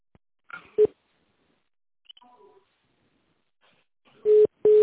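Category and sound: signal or alarm, telephone touch-tone dialing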